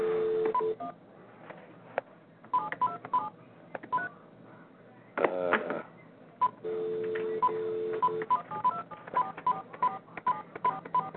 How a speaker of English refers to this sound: And I have to dial in with the other phone. One second.